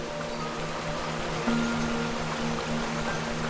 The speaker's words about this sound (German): Über einen langen Steg gelangt ihr direkt über den Abgrund, wo das Wasser in einer gigantischen Kaskade in die Tiefe donnert.